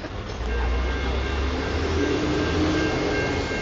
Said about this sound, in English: here comes the train. Here comes the train. That's a beautiful part, right?